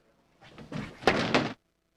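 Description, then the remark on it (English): A chair is thrown and slams down hard: a scraping, clattering rush followed by two loud, sharp banging impacts, then sudden silence. No one speaks. “The chair throw chair at the end.”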